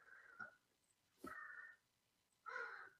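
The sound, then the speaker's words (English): A crow caws three times outside, harsh and raspy calls spaced about a second apart, fairly faint, with no one talking. “So I'm hearing a crow.”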